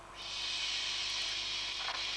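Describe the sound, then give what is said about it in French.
A steady hiss of shower water spraying starts almost at once and runs continuously without a break, with no voices over it. “Tu vois, ça c'est la douche.”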